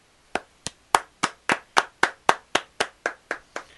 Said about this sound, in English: Nice. I only hear one set of hands. No, clapping. No, there were two. I was clapping. I was clapping something else. I'm sure it was hands.